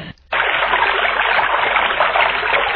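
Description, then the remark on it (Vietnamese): A babbling stream gurgles steadily, its continuous bright trickling filling the whole stretch after a brief quiet moment at the start, with no voices. “Khi hai anh em đến suối thứ ba, người em gái lại nghe trong tiếng róc rách của suối giọng nói.”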